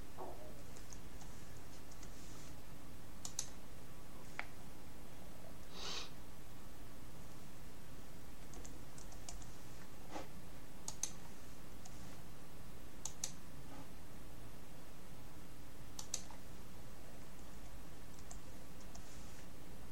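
Quiet, scattered clicks of typing on a computer keyboard as values are entered, a few keystrokes at a time with pauses between, faint against a low background hum. No one speaks.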